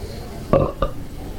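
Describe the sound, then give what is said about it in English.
Two short, throaty belches from North Carolina natives in quick succession, the first louder and longer, the second a brief follow-up, with no talking. “Our signature belching sounds.”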